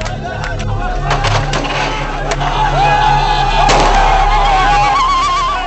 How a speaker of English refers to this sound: Iraqi civilians cheer as they throw rocks at the dead Americans in and around the blazing vehicle.